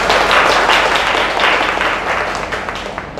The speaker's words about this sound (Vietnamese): Xin chào đón sư cô bằng một tràng vỗ tay.